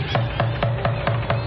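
Knocking on a wooden cabin door in Newfoundland: about seven firm, evenly spaced raps in quick succession, each with a dull low thud, fairly loud with no voices.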